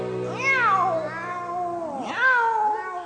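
Two long cat meows with a brief pause between them, each rising and then sliding down in pitch. Loud and clear, with no talking.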